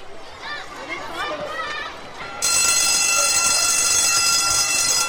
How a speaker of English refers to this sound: What does that bell mean? That bell means that we have to go back to our classes and start a new lesson. Oh, of course, I know that bell. That's the bell of the Lawrence T. Gay Primary School in Barbados' largest city, Bridgetown.